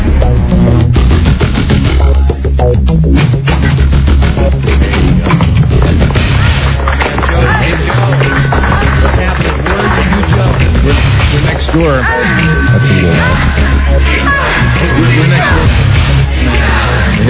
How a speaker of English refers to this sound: Oh, you mean one of these other DJs over here? Yes, screaming. Don't worry. Once we get going, we always win that battle. We'll be louder.